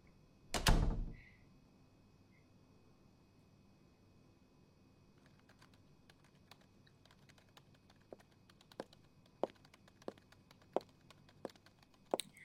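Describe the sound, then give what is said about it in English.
An office door closes with one loud thud, then the office goes quiet except for scattered, irregular taps of typing on a keyboard. “Hey, close the door on your way out.”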